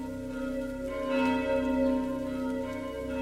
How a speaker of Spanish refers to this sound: El sonido de las campanas era un eco lúgubre que se extendía por el pueblo, arrastrándose entre las casas y despertando a los vecinos.